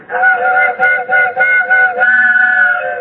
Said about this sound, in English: Gee, they changed the whistle on the train just for me.